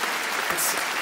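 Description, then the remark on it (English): A crowd at a Saturday night show applauding steadily for the ladies in the audience, a dense wash of many hands clapping at once with a bright, hissy texture and even loudness throughout, no voices standing out. “Let's have a round of applause for the ladies.”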